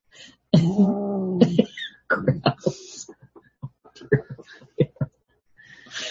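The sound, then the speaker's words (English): A cat lets out one drawn-out, fairly loud meow, followed by a few shorter chirps and indistinct murmuring sounds. “I said the cat wants to be on camera, so he's here.”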